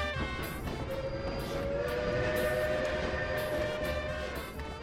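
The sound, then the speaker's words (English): A passenger train of the Verde Canyon Railroad rolls along the rails with a steady, loud rumble, a sustained metallic whine riding over the clatter throughout, with no voices. “aboard the Verde Canyon Railroad.”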